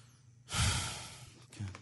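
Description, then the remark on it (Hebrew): A man's single heavy, drawn-out breath rushes out in despair, loud and airy, followed by a shorter breathy exhale with no talking. “כן, כך הוא נושם בכבדות.”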